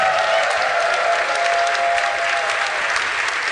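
A crowd claps steadily, a dense wash of hands at constant volume with faint whoops and a thin tone running underneath, no one speaking over it.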